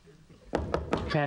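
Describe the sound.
Three sharp, evenly spaced knocks on a door, close and fairly loud, followed right away by a voice calling out.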